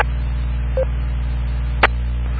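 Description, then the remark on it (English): Two short DTMF keypad beeps from an IP phone dialed into a radio node, entering the push-to-talk code, sound over a steady electrical hum on the phone line. The first is a brief clear tone; the second is a sharper, louder blip. “Star 99 is push-to-talk, pound is listen.”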